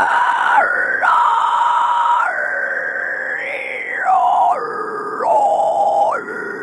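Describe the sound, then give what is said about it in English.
A harsh, shrieking vocal growl made with the false vocal cords, higher up in the throat, sustained and loud, with rough raspy texture and abrupt pitch shifts between held tones, sounding almost animal-like. No speech. “So it's actually like higher up, it sounds like like shrieking, sounds like an animal.”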